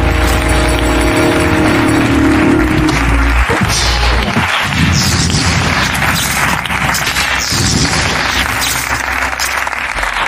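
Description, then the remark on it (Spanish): A loud, sustained burst of audience applause for Jorge Ponte on the TV show La Resistencia, dense and continuous for about ten seconds, with a heavy booming rumble underneath during the first few seconds. No one speaks. “Un aplauso para Jorge Ponte, la Resistencia.”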